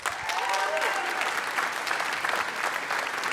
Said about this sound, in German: Wir machen jetzt den Applausometer. Ich bin der Applausometer.